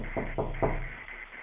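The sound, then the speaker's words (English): Three firm knocks on a door, evenly spaced, followed by a quiet pause with faint background noise. “Someone's at the door.”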